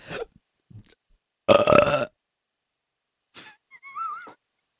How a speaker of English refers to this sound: Can most people burp on command or no? I would guess it's like a 50-50 kind of a thing. Would you like for me to show you?